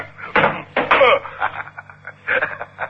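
A thrown gun smacks into a door with two sharp knocks in quick succession, followed by quieter scuffling and muffled sounds.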